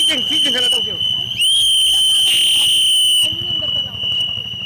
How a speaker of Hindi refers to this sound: देखते देखते शामियाना तन गया और फिर पीआरजे का झंडा भी और सीटियों का शोर फिजा में फैल गया।